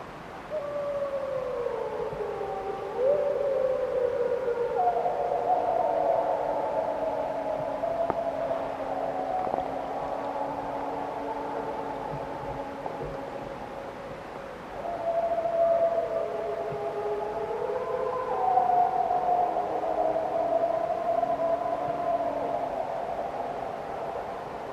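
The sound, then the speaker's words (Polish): Several wolves howl together at night in the dark in a long, overlapping chorus, their drawn-out tones rising and sliding in pitch, some voices higher and wavering, continuing steadily for about twenty-five seconds with no talking. “Jeśli ktoś myśli, że to psy, no to to nie były psy.”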